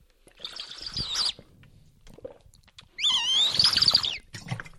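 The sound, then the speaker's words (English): Two bursts of shrill, warbling squeaks, like air whistling through a small hole in a 5-litre water bottle as someone takes a sip, each lasting about a second, with faint gulping underneath. “Can you hear that? It's got a weird hole in it when you drink.”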